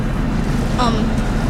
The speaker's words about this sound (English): Is the boat leaving the dock? What's all the commotion? The boat is moving.